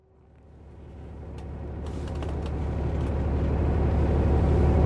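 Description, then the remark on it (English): A steady, low engine rumble fills the inside of a fairly empty bus, swelling gradually louder over several seconds, with faint hisses and clicks scattered above the drone and no one speaking. “Let's see if I can talk to myself on the bus for a little bit before it gets too full.”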